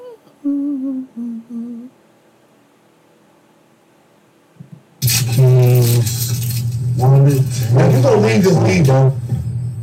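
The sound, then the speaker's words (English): A brief tonal voice-like sound, a few seconds of quiet, then a loud, bright rattle of keys jingling continuously, mixed with voices. “You've been jingling your keys for 20 minutes.”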